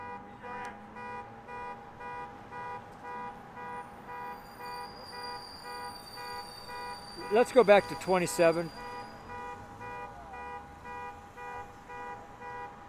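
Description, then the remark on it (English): A car alarm going off outside beeps steadily in a fast, repeating pulse throughout, moderately loud, with nobody near the car and the car not being stolen, while a man briefly speaks over it partway through. “Because the car alarm's going off.”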